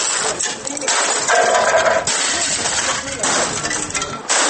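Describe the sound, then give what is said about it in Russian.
A sledgehammer, wielded by a municipal deputy of Moscow's Cheryomushki district at a Yabloko party action in Georgievsky Lane, Moscow, repeatedly smashes a printer: loud crunching blows and rattling, clinking plastic and metal debris in a dense, noisy stretch, with voices mixed in underneath. “Кувалду в руки взял муниципальный депутат Черемушкинского района Москвы”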